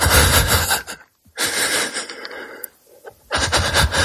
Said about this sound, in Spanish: Porque la idea que tenemos todos es, efectivamente, que al principio pues tienes una respiración agitada que realmente parece que te ahogas, ¿no?